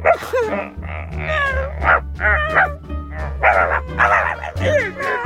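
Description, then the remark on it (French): A person yips and barks in imitation of a dog while hiding behind curtains as a prank, a quick run of high, voiced bursts with whiny rising and falling pitch, fairly loud and continuous over a low steady hum. “Faire des cris d'animaux en se cachant derrière les rideaux.”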